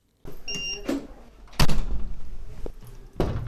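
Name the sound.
door opening and closing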